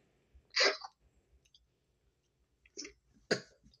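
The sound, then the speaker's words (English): A person coughs three times after a cough drop went down wrong, one sharp loud cough followed after a pause by two more in quick succession, with faint throat noise between and no talking. “Sorry, said that cough drop decided it wanted to go down in a hole.”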